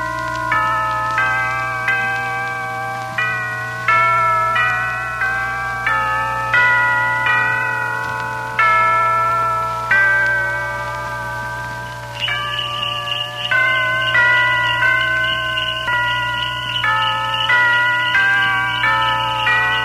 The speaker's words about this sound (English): Church bells and sleigh bells, mingling as old and young, hurry on their way to the village church, a church of brown nestling against the white in the green background of evergreen.